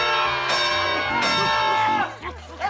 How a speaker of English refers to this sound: A great big scream is what we heard. I must have said the secret word.